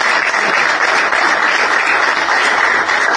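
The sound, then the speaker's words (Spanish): A steady burst of audience applause in Bolívar for the absent Pedro Amengual: many hands clapping in a dense, continuous wash of noise that stays loud and even throughout, with no voices standing out. “Bueno, vamos a nombrarlo, también es un bolivarense que viene haciendo muchas cosas acá en Bolívar, Pedro Amengual, le vamos a dar un aplauso, él no nos ha podido acompañar.”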